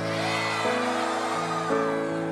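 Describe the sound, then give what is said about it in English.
A concert crowd in Brazil cheers loudly in a dense, continuous roar, with sustained musical tones shifting underneath and no pauses across the whole stretch. “And I hear that you guys are some of the loudest, if not the loudest crowd in the world.”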